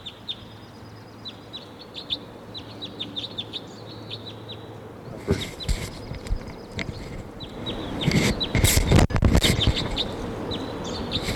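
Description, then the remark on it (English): Short, high chirping calls of a wild crossbill repeat in quick bursts over a steady background, then broader clattering and rustling noises grow louder and mix with the calls toward the end. “And there's a wild crossbill here.”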